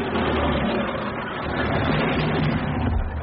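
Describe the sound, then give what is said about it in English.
The car carrying the Queen and Prince Philip pulls up with a steady, low engine rumble and a broad wash of road and crowd noise, holding an even loudness throughout with no voices standing out. “I've just heard on my headphones that the arrival of the Queen and Prince Philip is imminent. And in fact, I believe this is their car.”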